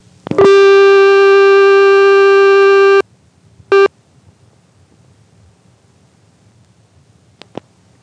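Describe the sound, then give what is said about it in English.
A loud, harsh buzzing tone from a CX1000 telephone exchange switch, connecting as the thousands digit of a phone number is dialed, sounds for about three seconds, followed by a brief matching burst and then two faint clicks, with no voices. “You can tell that I'm dialing the thousands digit of the phone number, of course, whenever you hear that distinctive CX1000 connecting noise.”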